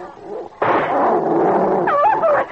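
A sudden, loud gunshot-like blast as a rifle barrel bursts cuts in after a low murmur, followed by a sustained roaring rumble, with high, wavering yelp-like cries rising near the end.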